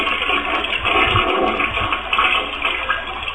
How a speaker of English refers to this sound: Okay. Properly flushed. Yes. Very nice.